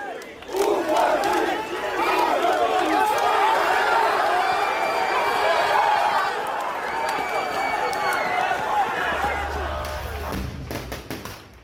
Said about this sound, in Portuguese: Você está ouvindo aí manifestantes gritando contra a polícia e bombas de gás lacrimogêneo, sons que marcaram as ruas de Belarus na noite de ontem.